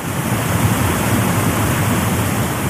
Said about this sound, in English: This is the waterfall sound story.